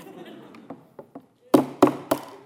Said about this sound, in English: It's not an effective hammer. It won't drive a nail, and it won't break. I don't know why. We have pounded nails for 2 days with this phone, and there's not even a scratch on the screen.